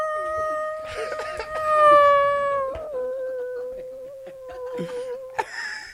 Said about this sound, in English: That was a long, long, long. I mean, that's wolf. The long. That was wolf. Way up there in the heels. That sucker way up there, boy.